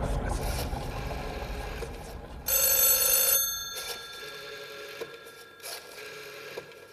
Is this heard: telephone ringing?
yes